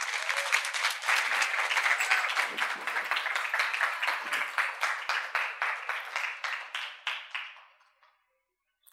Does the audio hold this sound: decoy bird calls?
no